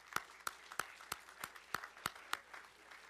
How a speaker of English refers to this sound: Today is graduation Sunday. And let's give a round of applause for those who have graduated.